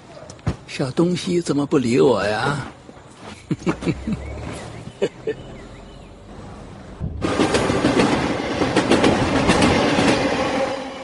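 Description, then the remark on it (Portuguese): A train heading to southern China rolls along the rails with a steady clickety-clack, loud, the rumble swelling in the second half; voices talk briefly near the start. “Os dois partem no trem para o sul da China, iniciando uma viagem cheia de aventuras.”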